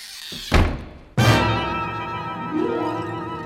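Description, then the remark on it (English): A door shuts with a heavy thud: a dull knock, then a louder slam half a second later that leaves a long, ringing hum fading slowly. No one speaks. “I said don't close the door.”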